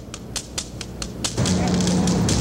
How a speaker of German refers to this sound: Was hier so hämmert und klopft, ist der Sound einer seiner berühmtesten Videoarbeiten. Ear to the Ground entstand 1982 in Zusammenarbeit mit Medienkünstler Kit Fitzgerald.